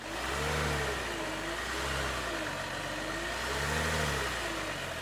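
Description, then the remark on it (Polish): An off-road vehicle's engine labors as it drives through mud on a barely passable road, its pitch rising and falling in repeated surges as it revs and strains, with a steady rumbling whir throughout and no voices. “Widzi pan, że samochodem terenowym ledwie się przejeżdża.”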